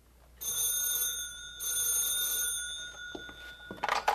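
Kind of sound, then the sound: signal or alarm, telephone ringing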